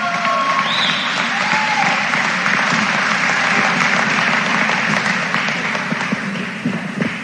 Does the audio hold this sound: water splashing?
no